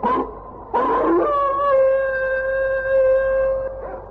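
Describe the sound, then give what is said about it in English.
A sled dog, one of a team that has found a sled trail, lets out a couple of short yelps, then a long, steady, loud howl that holds for a few seconds before tapering off, with no talking. “The dogs have found a sled trail”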